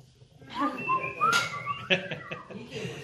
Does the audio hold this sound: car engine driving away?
no